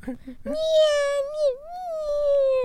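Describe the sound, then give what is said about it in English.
A child's voice lets out a long, wavering pretend cry that sounds like a cat meowing, drawn out over a couple of seconds after a brief bit of breathy vocal noise. “So, what are you, a cat now? Nope. Crying. I got my emotions flowing.”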